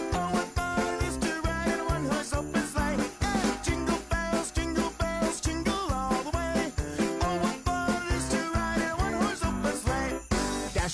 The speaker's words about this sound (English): Yes, a Thanksgiving song, Jingle Bells. I had to burst everybody's bubbles, but that's what it is.